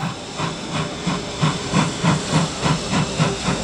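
train hissing steam

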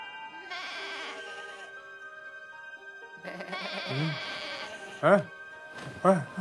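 sheep bleating

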